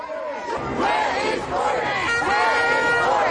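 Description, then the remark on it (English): A large protest crowd, marching against injustices to black people sparked by George Floyd's death, chants loudly at the Prime Minister's office and residence on Downing Street, many voices rising and falling together in repeated, rhythmic shouts that keep going steadily without a break. “Then the crowd marched through the city, stopping at the Prime Minister's office and residence on Downing Street.”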